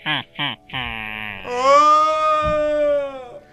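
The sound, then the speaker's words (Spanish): A deep, loud scream: two short yelps, then one long sustained wail with a strained, harmonic-rich voice that holds steady for about two seconds before trailing off. “Germán escuchó el profundo grito de Amigo 3 y comenzó a pedir auxilio, mientras que Winnie se acercaba lentamente al ataúd.”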